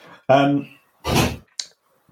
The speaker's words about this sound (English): You got your own sound effects there. Yeah, I know. You know, must get some oil on that door.